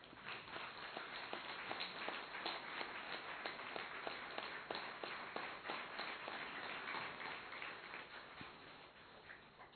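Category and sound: crowd, audience clapping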